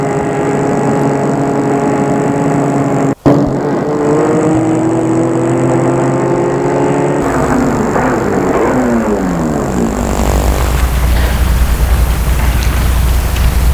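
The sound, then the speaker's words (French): A car drives along toward Grenoble, arriving in the late afternoon, with a steady engine drone. About halfway through, the engine's pitch shifts and rises as it speeds up. There's a brief dropout early on and no voices. “Marc prit le volant. Ils arrivaient en fin d'après-midi à Grenoble et allaient garer leur voiture vers la gare.”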